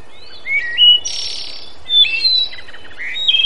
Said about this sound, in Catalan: Doncs, a veure què diu aquell pardal d'allà dalt, d'aquell arbre. Ah, sí, sí, esclar que sí. Ei, pardalet! Pardalet bonic, què? Què m'expliques?